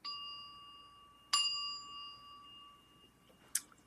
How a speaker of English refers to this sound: Little bell, right? So now I'm going to request that you allow the bell sound to come toward you.